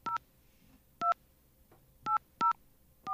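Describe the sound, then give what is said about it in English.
Five short, clear touch-tone beeps as a phone number with a 202 area code is punched into a phone keypad, spaced unevenly with brief silences between presses and no one talking. “We have a dial tone here. Should I call the 202 number or the 800 number?”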